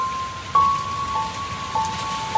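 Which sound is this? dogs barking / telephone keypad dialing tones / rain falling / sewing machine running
rain falling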